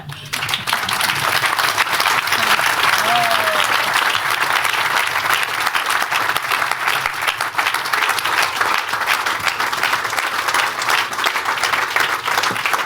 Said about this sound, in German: Viel Applaus hier, wir kommen gar nicht zu den Fragen.